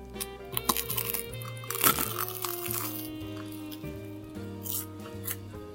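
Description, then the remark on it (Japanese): Crisp, crunchy bites into a curry bread about 10 cm long, warmed in a microwave and then rebaked, crispy outside and hot inside, several sharp crackling crunches followed by softer chewing, with a steady low musical tone running underneath and no talking. “すごい、一度電子レンジで温めたことで中のカレーまでしっかりと熱が通っていて、外ザクザク、中熱々の本当に焼きたて、揚げたての美味しさを感じられます。”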